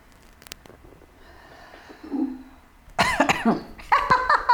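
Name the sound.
coughing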